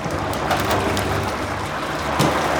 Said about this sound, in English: dropping baskets of chicken wings into deep fryers that are bubbling with cooking oil.